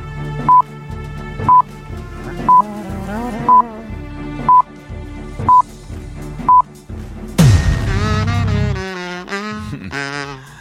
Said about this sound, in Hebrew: קאזו. אמיתי. אמיתי, קאזו. כמה אחוז ידעו שזה קאזו?